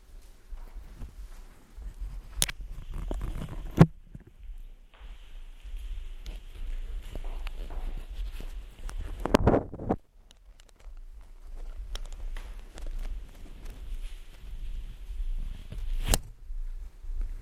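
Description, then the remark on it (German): Soft, irregular footsteps patter across a floor, with dull low thuds and a few sharper clicks, as several people seem to walk about during a guided exercise, with no one speaking. “Gut, dann gehen wir Schritte.”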